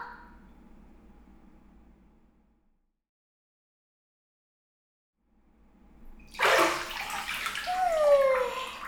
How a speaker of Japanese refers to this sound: もうお姉ちゃん、ここまでやったならシャワーで流してからお風呂入ってよ。